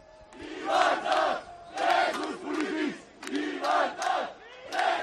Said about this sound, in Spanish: Son los gritos desde las calles de Barcelona, literalmente en llamas, ardiendo contenedores, ardiendo algunos coches y los gritos de los violentos que de momento le han ganado en la batalla a la policía